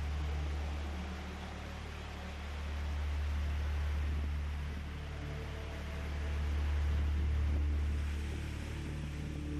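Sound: waterfall rushing water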